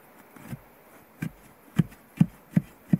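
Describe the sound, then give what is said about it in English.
A probe rod thuds dully against buried wood, about six low, muffled knocks that start uneven and settle into a steady beat, with no metallic ring and no voices. “See, it's like a thud thud, but it doesn't have the dink dink.”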